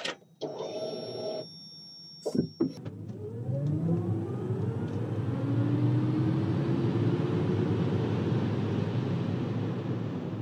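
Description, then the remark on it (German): An electric car whirs and hums, starting with a steady high-pitched whine and a few clicks, then a loud, continuous motor hum with tones rising as it speeds up for several seconds. “Es ist uns längst vertraut, das Surren, Summen, Brummen von Elektroautos.”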